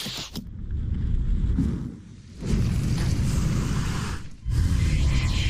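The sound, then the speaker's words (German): Video game arrows whoosh through the air in a dense, rushing wave of noise over a deep rumble, easing off twice briefly before surging back. No one speaks. “Hört euch die Pfeile an.”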